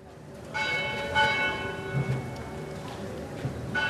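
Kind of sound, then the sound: signal or alarm, church bells tolling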